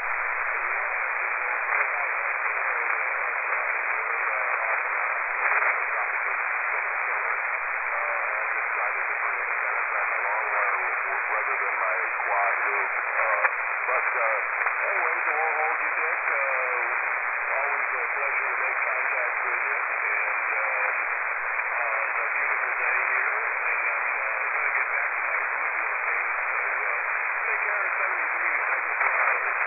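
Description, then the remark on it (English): A steady wash of radio static fills the band for half a minute, with a weak, garbled voice faintly breaking through the hiss of an amateur radio check-in on the U.S. Coast Guard Amateur Radio Net. “Got your check-in online, but sounds like the signals have come up a little.”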